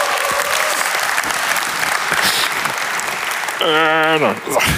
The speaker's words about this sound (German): Applaus für Stefan am Mischpult.